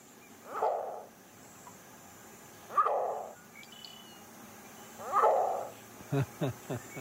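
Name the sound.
green heron call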